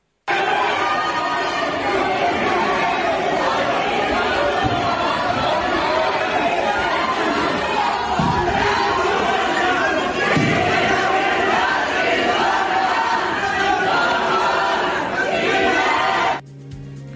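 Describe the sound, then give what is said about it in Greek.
A large crowd boos and jeers a 28-year-old man as he is brought to court, shouting continuously in a dense, loud roar of overlapping angry voices, sustained for about sixteen seconds before cutting off abruptly. “Πάμε καταρχήν να ακούσουμε τις αποδοκιμασίες κατά την προσαγωγή του στα δικαστήρια.”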